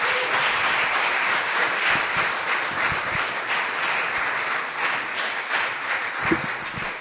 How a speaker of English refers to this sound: I want to ask you to applaud Pastor Colin as he comes up and thank God for this anointing.